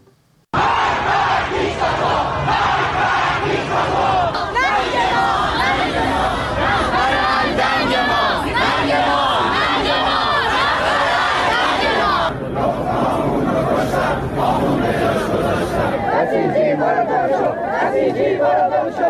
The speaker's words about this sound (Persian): در تظاهراتی که در چندین شهر بزرگ و کوچک ایران اتفاق افتاد معترضان علیه مسئولان جمهوری اسلامی شعار سر دادن و از بیکفایتی در اداره مملکت گفتن.